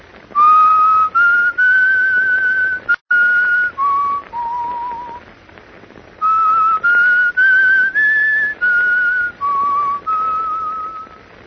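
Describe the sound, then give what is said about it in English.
A tune whistled over the telephone: steady, sustained notes rising and falling in pitch, heard alone with a thin, band-limited telephone quality and a brief gap partway through. “I'll whistle the tune for you over the telephone.”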